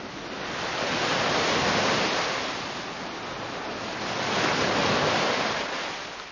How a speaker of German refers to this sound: Wind, Regen und Brandung.